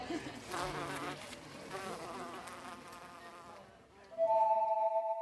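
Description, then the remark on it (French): A wasp buzzes inside a drinking glass, its wings droning in uneven bursts before settling into a louder, steady, ringing hum near the end. “Parlant de se lancer, une guêpe vient de se garrocher dans mon verre.”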